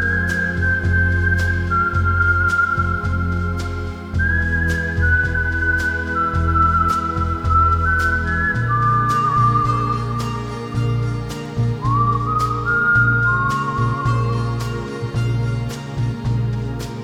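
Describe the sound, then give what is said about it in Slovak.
A clear, high melody whistled by the band's singer glides between sustained notes above lush strings and plucked harp, with a soft, steady brushed rhythm underneath and no voices; from a single released in May 2000. “Sláky, metličkový rytmus, harfa a pískanie, o ktoré sa postarala dokonca samotná spevačka”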